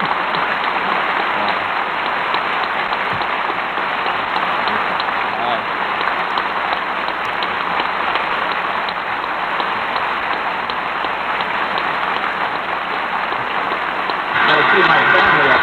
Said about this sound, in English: Another standing ovation for the president. He nods, smiles, acknowledges the applause as the members sit down.